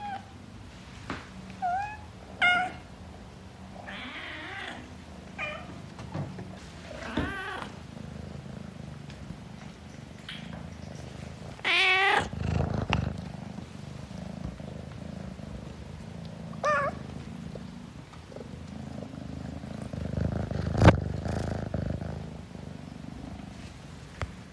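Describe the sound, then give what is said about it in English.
Kittens meow repeatedly in short, high chirping calls over a steady low purr, with a few louder, drawn-out meows and no talking. “But until then, I will leave you with the exemplary sounds of my very talkative kitten babies.”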